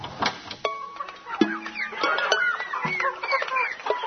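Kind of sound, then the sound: bird, chickens clucking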